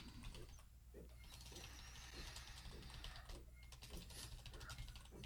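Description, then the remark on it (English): A printer runs continuously, its mechanism whirring and ratcheting in quick, repeated clicks with a steady low hum underneath, moderately loud, with no talking. “What is that sound? Oh, sorry, I'm printing an. That's the printer.”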